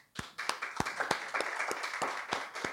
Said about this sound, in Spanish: Y quiero que demos palmas al Señor por eso.